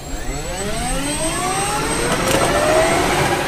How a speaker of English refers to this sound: he elects to rest his trusty flying partners in favor of the next best thing, Black Hawk helicopters provided by the Alaska Army National Guard.